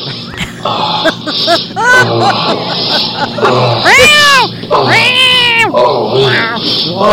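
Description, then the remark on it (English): Two cats trade loud, drawn-out meows and yowls back and forth, overlapping at times, with rising and falling wails and no talking. “This the cat's just going around mowing each other.”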